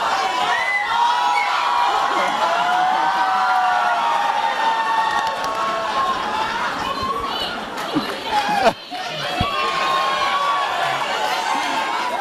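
audience screaming and cheering

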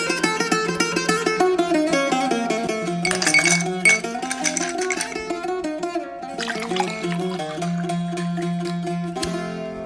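glasses clinking

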